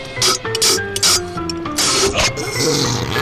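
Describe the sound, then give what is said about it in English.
Wet sipping and sucking noises in short, hissy bursts, with a fizzy crackle underneath as blackberry-flavored sparkling club soda is drawn in over a Blitz chew-up mint over several seconds. “Listen to those sucking sounds as that pure, sparkling, bubbly water passes over that Blitz chew up mint.”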